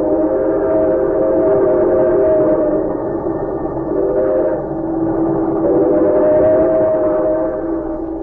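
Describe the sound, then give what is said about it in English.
A fast express train rushes along, heard from its parlor car, with a loud, unbroken roar, steady tonal notes ringing through the rumble and swelling slightly midway and again toward the end. No voices are heard. “He might have understood could he have overheard a conversation taking place at that moment in the parlor car of a fast express.”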